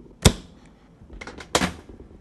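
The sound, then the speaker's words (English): A dishwasher door is opened during the dry part of its cycle, with keyboards washed inside: a sharp latch click, a few softer rattles, then a louder clunk as the door drops down. No one speaks. “People have suggested to me that that's not such a good thing because of the heat involved, so I'm just going to open it up now.”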